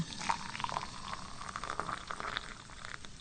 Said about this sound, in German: So, das Wasser kocht. Das ging schnell jetzt.